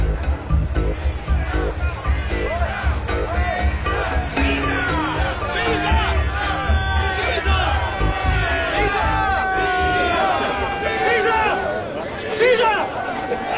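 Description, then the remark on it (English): A crowd following Caesar through a narrow street murmurs and chatters continuously, many overlapping voices forming a dense babble with occasional louder calls rising out of it, swelling slightly as if drawing nearer. “The throng that follows Caesar at the heels of senators, of praetors, common suitors, will crowd a feeble man almost to death.”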